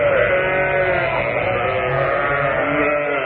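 A record of sheep is played: sheep bleat continuously, several overlapping wavering cries forming a dense, loud chorus with no pauses.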